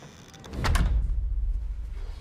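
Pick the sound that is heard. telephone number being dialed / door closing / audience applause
door closing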